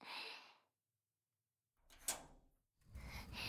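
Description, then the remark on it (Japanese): The heavy door of a sealed school gym storage shed scrapes and rumbles open after a moment of silence, with a sharp clack partway through. It makes a low rolling sound like a sliding door on a track. “ああ、扉開けたら涼しい。”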